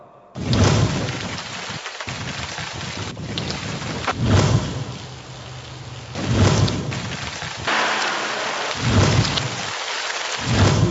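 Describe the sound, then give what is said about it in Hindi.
A heavy, continuous torrential downpour in Lahore roars loudly, with several deep rumbling swells of thunder rising and fading every few seconds beneath the steady hiss of rain. “लाहौर में मूसलाधार बारिश, घर की छत गिरने से दो अफराद जान बहक।”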